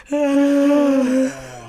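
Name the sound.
human yawn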